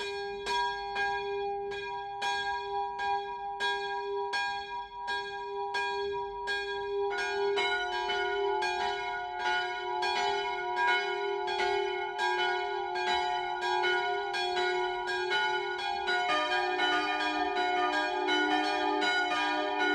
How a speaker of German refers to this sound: BR Heimat, 12 Uhr läuten. Es ist 12 Uhr. Das Mittagsläuten kommt heute von der evangelisch-lutherischen St. Johanneskirche im oberfränkischen Hirscheid.